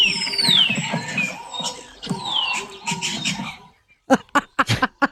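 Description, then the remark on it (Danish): Spring birdsong in a garden: chirps and whistling trills over faint background rumble, then after a brief pause a hen clucks in a quick burst of four or five sharp, insistent calls. “Elsker den bare slutter af med en kampliderlig høns.”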